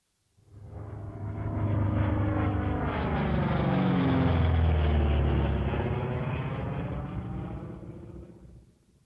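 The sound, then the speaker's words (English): An airplane passes overhead, its engine roar swelling from faint to loud and then fading away over several seconds, with a broad low rumble and shifting tone as it goes by. “Plane.”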